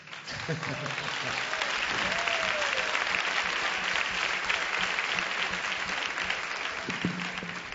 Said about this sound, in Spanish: Así que el aplauso. Para que se le quiten los nervios, esos nervios que decía desde el principio, los aplausos quitan los nervios. El aplauso.